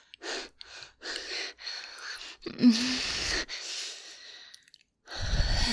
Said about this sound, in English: I need a moment. Okay, sweetie. At least until the panting stops.